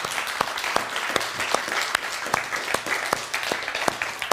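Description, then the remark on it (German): A crowd applauds steadily, many hands clapping in a dense, continuous wash with a few sharper, louder claps standing out, sustained throughout, in thanks to Asta Bamberg and the Kontakt culture project and festival. “Dafür schon mal einen richtig dicken Applaus.”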